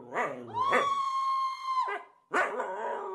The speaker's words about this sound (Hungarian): Továbbá egy kisebb fülkénél, amelyből egy védőoltástól gyengélkedő kutya rohant ki üvöltve.